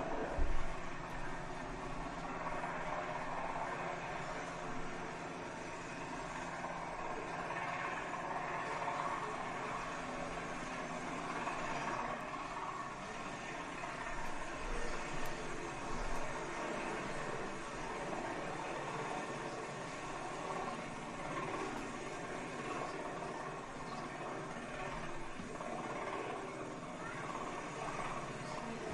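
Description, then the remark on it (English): A Coast Guard rescue helicopter roars as it comes in to land, a loud, steady wash of engine and rotor noise with a faint rhythmic chop that holds for the whole stretch. “It was the Coast Guard helicopter. So I think we've got a video, hopefully it'll work, of when it came in to rescue.”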